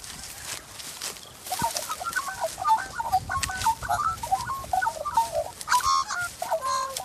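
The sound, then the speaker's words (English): A magpie calls from a tree in a run of warbling, fluting notes that rise and fall almost continuously for several seconds, over a rustling outdoor background. “There's a very unique cry coming from one of those trees. I think it's a bird, and I'm pretty sure I know what kind.”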